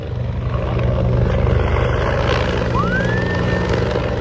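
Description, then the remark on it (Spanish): A firefighting helicopter carrying water in its bucket roars steadily as it passes over flames, with a dense, rumbling rotor drone, and a rising tone sweeps upward and holds partway through. No one speaks. “Y ya con el agua en la cesta, al pasar por encima de las llamas, el sonido que escuchabais al principio.”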